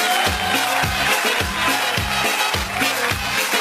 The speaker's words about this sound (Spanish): Ahí está el aplauso.